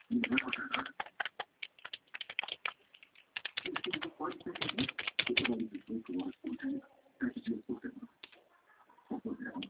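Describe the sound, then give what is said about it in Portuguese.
Rapid, irregular clicking of keys on a computer keyboard that shows a small red light, fairly loud, in bursts with short pauses, while a voice talks over parts of it. “Agora o meu teclado aparece uma luzinha vermelha. Quando estiver acesa, ela não funciona.”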